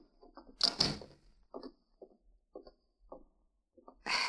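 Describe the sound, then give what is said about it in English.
A sheriff's office door swings shut with a sharp, loud thud, followed by a series of soft, scattered knocks and shuffles, then a burst of broad noise at the very end. “Just close the door and sit down.”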